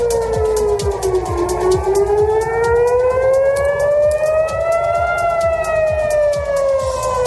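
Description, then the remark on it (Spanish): Air raid sirens wail loudly and continuously in several places in Israel, including Jerusalem and the area near the Dead Sea, a long pitch slowly dipping, climbing and easing again with harmonic overtones, over a steady rumbling background. “Suenan las alarmas antiaéreas en varios puntos de Israel, entre ellos el área próxima al Mar Muerto y la ciudad de Jerusalén.”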